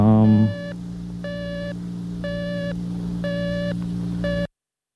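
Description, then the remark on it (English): Electronic beeping repeats at an even pace during a classical music show on air, five steady tones of about half a second each with equal gaps, sounding over a constant low hum and ending abruptly. “it's a little hard really to do a classical music show with all that beeping unless you really consistently play some really loud things.”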